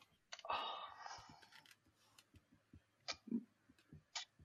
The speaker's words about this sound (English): You'd hear it. Listen to this keyboard. Oh, someone's showing off about his mechanical keyboard. Jesus. Flare tech technology in these keys, mate.